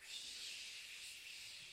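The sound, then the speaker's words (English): One side of a sermon audience, helping with sound effects, imitates wind by blowing, making a soft, steady, breathy hiss that holds evenly for the whole moment with no talking. “This side is going to be the wind, okay? So when you hear me talk about the wind, I want you to just go.”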